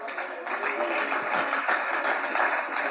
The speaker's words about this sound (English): right, you're clapping. All right, let's see.